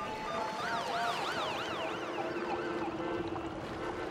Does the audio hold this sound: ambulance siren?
yes